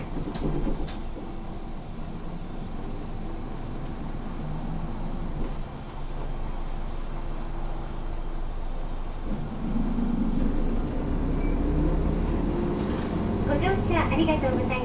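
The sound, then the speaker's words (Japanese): A city bus engine rumbles low and steady from inside the vehicle, then swells louder as the route 504 bus bound for Tenjin via Meinohama ramp and the city expressway pulls away from Ishimaru Shinmachi and picks up speed, with faint voices murmuring underneath. “発車します。”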